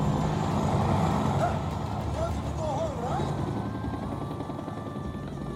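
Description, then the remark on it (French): A steady, loud helicopter rumble in a finished film scene fills the whole stretch, a dense low droning engine noise that holds constant from start to end, with faint tonal whines riding above it. “Ah oui, on voit le même hélico.”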